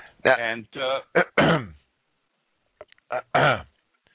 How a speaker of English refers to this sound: I'm sorry. I just had to clear my throat.